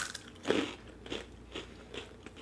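Crisp crunching on a sweet fried snack with the coloration of a French fry, starting with one sharp loud bite and followed by several softer, evenly spaced chews, with no talking.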